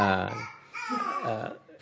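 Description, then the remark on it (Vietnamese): A baby babbles during a teacher's Dharma talk, in short, sing-song vocal bursts with rising and falling pitch, clear, with a brief pause between utterances. “Tại vì nghe chú ý con thằng em bé này nhiều hơn là chú ý lời tài giảng của thầy.”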